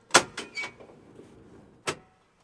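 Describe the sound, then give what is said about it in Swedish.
A rented pickup truck parks on 55th Street in Cleveland and people climb out: a quick cluster of sharp clunks and door clicks, a low idling rumble, then one solid door slam. No one speaks. “De parkerar bilen och kliver in.”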